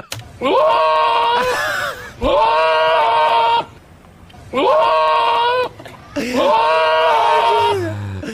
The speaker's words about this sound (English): Why are goats so entertaining? I love the way goats are always just so disappointed. Yeah. They're just so wailing disappointment.